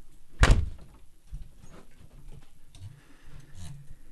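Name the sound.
door opening and shutting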